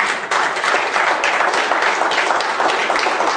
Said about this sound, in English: Everybody give the Lord a hand of applause.